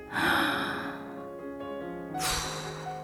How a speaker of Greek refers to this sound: Η … παίρνει μία βαθιά ανάσα.